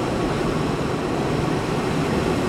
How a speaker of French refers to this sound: Impressionnant le niveau de bruit à ma gauche et à ma droite. Des murs entiers de ventilateurs avec des petits fils jaunes et noirs.